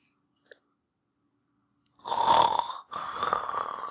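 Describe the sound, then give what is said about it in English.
Two loud snores follow a moment of near silence and a faint tick, the first a harsh rasping inhale, the second longer and rumbling, with no talking. “Every snore brings an ostrich horse closer and closer.”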